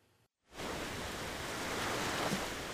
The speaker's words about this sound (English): Waves are crashing onto the beach as … gives a surfing lesson.